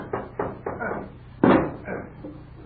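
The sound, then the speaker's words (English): Carpenters batter and smash down a door, with a series of heavy, irregular thuds and one louder crashing blow in the middle, each impact ringing briefly before the next. “Carpenters, smash down that door!”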